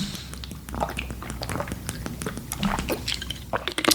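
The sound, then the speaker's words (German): Someone sips water, with a string of small wet mouth clicks, slurps and swallows, fairly quiet and irregular, growing a little louder toward the end. “Sorry, ich trinke jetzt hier mal einen Schluck.”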